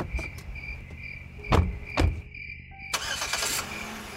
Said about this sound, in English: Driving down the narrow back road, the headlights of the car bore holes through the dark.